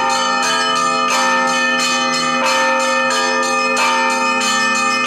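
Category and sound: signal or alarm, church bells being rung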